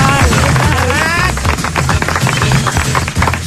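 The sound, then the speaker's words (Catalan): Loud, dense applause fills the whole stretch, many hands clapping in a steady crackling wash, with some higher voiced cheering tones rising over it near the start, as an audience greets one of the day's protagonists. “I saludem a aquesta hora, amb un fort aplaudiment, a una de les protagonistes del dia.”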